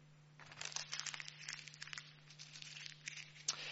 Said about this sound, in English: I have crunched up this note. Now, a moment ago, it was a nice, clean, crisp note worth £10. I've crunched and creased it up, but it hasn't lost its value.